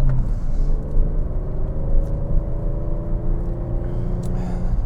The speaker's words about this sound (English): You get these great four-wheel drifts in the Panamera because the car just attenuates all the power, and it's just really a treat to do a lovely little drifty four-wheel slide around some of these corners.